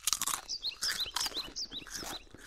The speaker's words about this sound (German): Knusper, knusper, Knäuschen. Wer knuspert an meinem Häuschen?